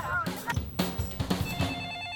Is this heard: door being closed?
no